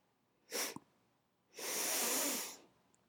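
Airy sniffing through the nose at a pair of worn, unwashed underwear: a quick short sniff followed by a longer, drawn-out inhale about a second later, with no talking.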